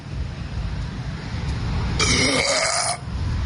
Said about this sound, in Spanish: Porque, perdón, ahora sí que me eché un burp, a ver.